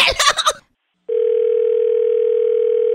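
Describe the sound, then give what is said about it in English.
A short burst of noise gives way to a moment of silence, then a steady, unbroken telephone dial tone starts after a phone is hung up and hums on at a constant mid pitch until the end. “I'm hanging up, and I'm calling Animal Control and 911.”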